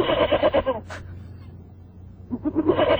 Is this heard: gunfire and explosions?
no